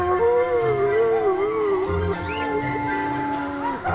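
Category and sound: animal, wolf howling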